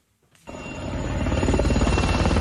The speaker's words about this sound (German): Das österreichische Bundesheer hilft mit in Niederösterreich. 13 Hubschrauber kreisen über dem Katastrophengebiet. Hier einer der Black Hawks über der Landeshauptstadt St. Pölten. Bereit, Menschen zu retten aus überschwemmten Häusern.